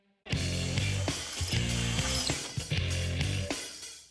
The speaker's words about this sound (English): All right, now when you hit it, this solenoid right here, that should kick up in the air. Okay, perfect.